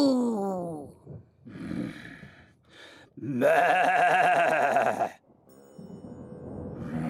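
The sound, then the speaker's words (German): A person imitates a cow with a long, drawn-out nasal moo while breathing out anger like a cow. The moo swells loudly for a couple of seconds, surrounded by shorter vocal sounds and breathy murmurs. “Wir atmen die Wut jetzt einfach weg, wie eine Kuh. Mu.”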